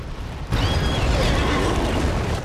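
huge explosion

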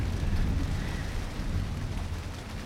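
heavy rain pouring outside

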